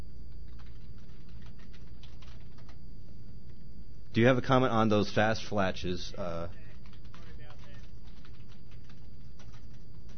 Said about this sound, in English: Gosh, I cannot type and speak at the same time.